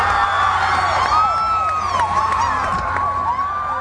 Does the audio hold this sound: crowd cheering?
yes